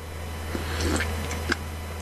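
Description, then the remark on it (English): Someone takes a few quiet sips of coffee: soft, short slurps and small wet clicks spread over two seconds, with a steady low hum underneath and no talking. “Took another sip of coffee and went on with our day.”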